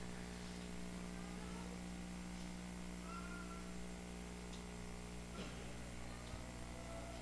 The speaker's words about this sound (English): Hear all the little kitty voices. Isn't it sweet? Just don't get too loud.